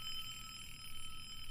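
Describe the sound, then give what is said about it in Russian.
An alarm clock rings steadily, a continuous high, bright tone that holds without pause for the whole moment, with no voices present. “Все трое так и сидели, окутанные счастьем вечности, пока откуда-то сверху, где-то очень высоко в небе, не раздался грохот гигантского будильника в облаках, нависшего над озером.”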